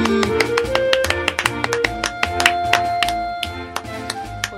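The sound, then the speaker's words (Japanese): Sharp hand claps ring out in quick, irregular bursts over a steady hum of sustained tones, with no talking, loud and crisp throughout. “最初拍手で時間を潰してるのはね、語ることがない日ですから。”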